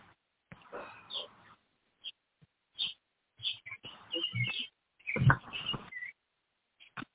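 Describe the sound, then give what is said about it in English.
Pet birds chirp and squawk in short, irregular bursts separated by brief silences, sounding thin and slightly muffled as if over a phone line, with no talking. “How are your birds?”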